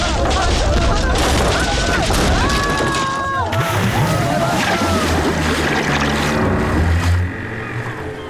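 A fishing boat in a harbour, stopped when something thrown into the water caught on it, crashes heavily into a pier: loud, continuous churning and splashing with deep booming thuds and creaking strain, intense for the full length before easing slightly at the end.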